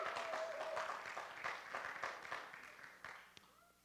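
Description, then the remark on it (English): A church audience claps and cheers, dense overlapping hand claps with a few whoops rising and then tapering off toward the end, fairly loud and without any clear words. “We got to cheer more in church.”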